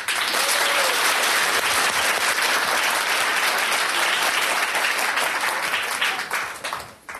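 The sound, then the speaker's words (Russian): A large audience applauds steadily, a dense, even wash of clapping that holds strong for about six seconds before tapering off at the end. “Я думаю, что сейчас опять с аплодисментами все будет в порядке.”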